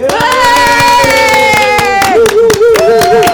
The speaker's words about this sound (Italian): Fatevi sentire con un bel applauso.